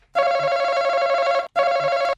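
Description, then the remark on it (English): A game show buzzer being tested before play sounds twice: a long, loud electronic tone lasting over a second, a brief gap, then a shorter second blast, harsh and steady with a bright, harmonic-rich pitch. “Can we check some buzzers, please?”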